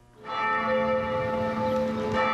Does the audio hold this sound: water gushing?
no